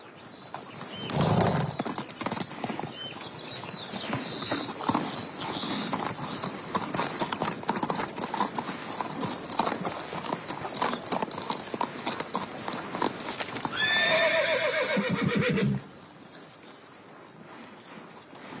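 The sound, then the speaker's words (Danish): Horses clip-clop steadily, hooves striking in a brisk rhythm, and near the end a loud neigh rises and falls before the sound cuts off into quiet. “hvad er der med de her heste?”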